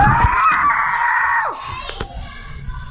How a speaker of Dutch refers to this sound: Er klonk weer een dino-geluid.